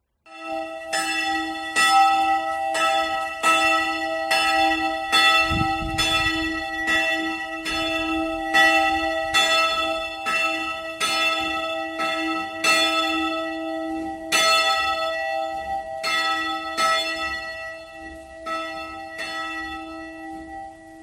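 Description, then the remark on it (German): A church bell rings steadily and loudly ten minutes before prayers, calling people to church: repeated strikes in an even rhythm with long sustained overtones blending into a continuous peal; no one speaks. “Genau, die Glocke war immer, ich glaube, ja doch 10 Minuten von den Gebeten.”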